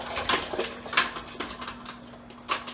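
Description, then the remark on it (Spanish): Frozen cubes of coconut or almond milk, made in an ice tray, clatter one after another into the plastic bowl of a food processor, about six sharp knocks spread unevenly over a few seconds, moderately loud, with a faint steady hum underneath. “¿Ven cómo quedan los dados? Y también los colocamos en el procesador.”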